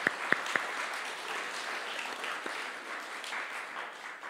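A crowd applauds steadily, a dense patter of many hands clapping at moderate volume, with a few sharp louder claps standing out at the very start.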